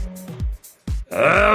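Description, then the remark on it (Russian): A man roars in a series of loud, guttural vocal bursts with falling pitch, ending in a harsh, sustained bellow. No words are spoken. “Вместо этого он выставил вперед трость и страшно, неузнаваемо перекосив красивое лицо, взревел.”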